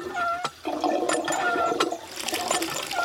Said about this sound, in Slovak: Predkloní sa do studne a opláchne si niekoľkokrát tvár vodou z vedra.